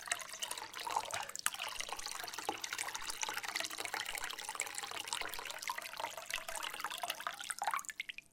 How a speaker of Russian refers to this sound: Техническая пауза, мне нужно отлить.